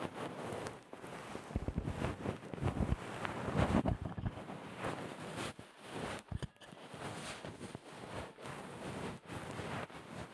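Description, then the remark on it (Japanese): Fluffy bonten ear-pick fluff brushes and scratches against a microphone, a continuous soft rustling scattered with sharp crackling pops and snaps as the bonten hairs catch on the microphone, with no talking. “このパチパチって音がマイクのところ、マイクこの近いところ、耳の近くに梵天の毛が引っかかる音なんですよ。”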